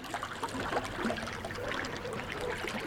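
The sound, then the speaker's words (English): A steady trickle of water in Snow Creek, now a cement-lined ditch, babbles and splashes softly. It is a continuous bubbling with no voices, fairly quiet throughout. “I know back in the day, we used to dam these waters up and swim in them.”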